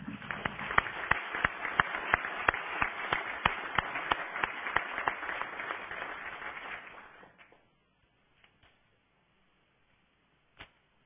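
A crowd applauds the city poet at a welcome for the town's new mayor, clapping steadily for about seven seconds in dense overlapping claps, then the applause fades out, leaving a few scattered claps and one last sharp clap near the end.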